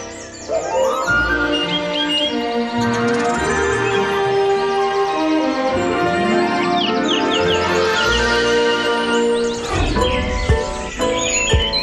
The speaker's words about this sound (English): The Dawn Chorus, live from Ireland on RTE Radio 1 and RTE Lyric FM.